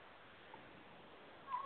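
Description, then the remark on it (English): Steady low background hiss, then near the end a single short, faint meow from a cat outdoors. “There's some cats out there.”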